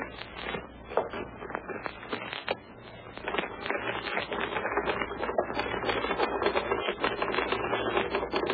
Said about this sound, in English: sit down, please, will you, Bill, and type off a few lines of the new scene